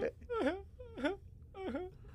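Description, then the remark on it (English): A voice imitates a small robot boy sobbing outside: three high, wavering wails that dip and rise in pitch, each about half a second, separated by short pauses, with no other talk. “You hear him sobbing outside.”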